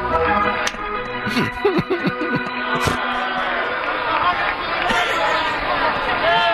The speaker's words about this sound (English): Anyway, listen to the roar of the crowd as the Indians take the field.